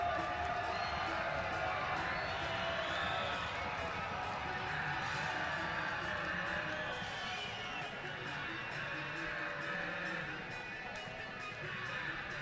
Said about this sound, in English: Home crowd getting into it here on this Saturday night.